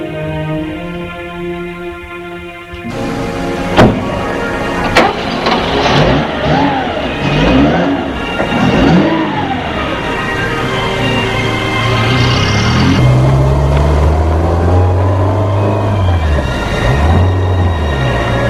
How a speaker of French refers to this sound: Il a entendu la voiture se mettre en route et s'éloigner.